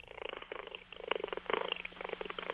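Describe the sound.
A person imitates a cat's chattering at birds, a rapid, crackly stream of clicks and trills with a purring, rustling texture, steady for a couple of seconds.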